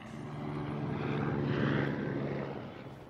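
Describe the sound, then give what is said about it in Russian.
A helicopter drones steadily overhead, its low rotor and engine hum swelling slightly louder midway and then easing off, heard alone without any voices. “Это вертолет.”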